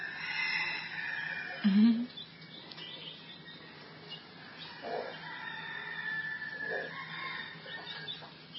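Chickens cluck and squawk in a steady, busy chorus, with a brief louder rising call near the start and occasional higher crowing notes over a constant low background rumble.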